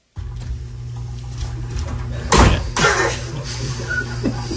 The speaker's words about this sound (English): She shut the door quickly again.